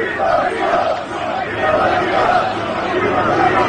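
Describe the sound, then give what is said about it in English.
A large crowd of union construction workers at a site in Midtown Manhattan near Trump Tower chants in unison as the former president shakes hands, a dense wall of many voices rising and falling in a steady rhythmic cadence, loud and continuous throughout. “So you can hear those chants.”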